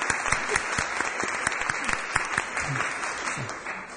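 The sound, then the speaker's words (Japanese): An audience at a church worship service applauds together, a dense, steady wash of many hands clapping that holds at an even level for the full four seconds, with a few faint voices mixed underneath, celebrating a member's return after leaving hospital. “大きな拍手を持って祝福したいと思います。”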